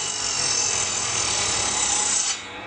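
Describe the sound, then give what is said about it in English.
A carpenter's power saw cutting wood for new window frames in a neighborhood of Kandahar, Afghanistan: a steady, loud, high buzzing whine that holds for over two seconds before cutting off abruptly near the end, with no voices. “Yesterday, a carpenter started cutting new window frames.”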